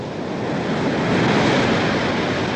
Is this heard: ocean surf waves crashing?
yes